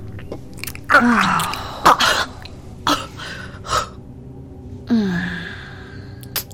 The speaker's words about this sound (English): There's nothing quite like seeing you just gasp for air after taking my thick Fuda cock that deep.